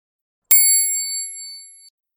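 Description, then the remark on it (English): A single bright, high-pitched bell strike rings out clearly on its own, its metallic tone sustaining and slowly fading over about a second and a half. “Cat can see a rope. Ding dong.”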